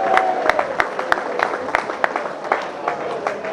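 At a prize-giving, an audience applauds the sponsor Ajax Chip over a steady wash of noise, with sharp individual claps standing out at irregular moments. The clapping stays fairly even in loudness for a few seconds.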